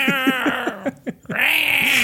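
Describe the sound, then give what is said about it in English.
A cat locked out of a room meows in a quick run of short, rising cries, then lets out one longer, drawn-out yowl. The sound is fairly loud, with no talking. “I can hear the cat meowing because he's locked out of the room.”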